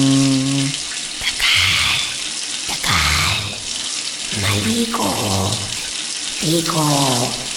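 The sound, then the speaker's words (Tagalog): Running shower water pours in a steady hiss throughout, in a water-saving reminder from the El Nino Task Force, with a voice breaking in briefly over the spray several times. “Bawat minuto sa shower, 10 litro ang nagagamit.”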